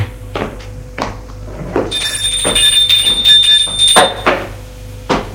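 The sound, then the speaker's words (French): A front door of a home being opened after the doorbell rings: several dull thunks and clicks from the latch and handle, with a thin, drawn-out squeak in the middle as it swings, and no voices. “Il ouvre.”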